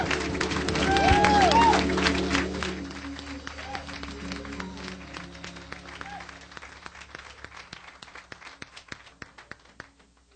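A standing audience applauds a pastor with dense, steady clapping and a few whoops and cheers early on; the applause then gradually thins into scattered, fading claps.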